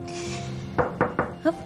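Four firm knocks on a door rap out in quick succession, with a slight pause before the last one, following a brief stretch of quiet background hum.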